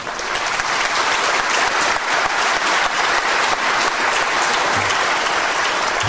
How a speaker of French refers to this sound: je crois que vous pouvez encore l'applaudir chaleureusement.